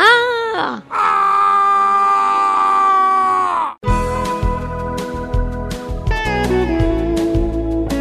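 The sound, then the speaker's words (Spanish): A voice imitates a hunter screaming: a short wavering cry, then a long, loud, sustained yell lasting about three seconds, cut off abruptly as upbeat music with drums begins. “Luego un cazador gritando”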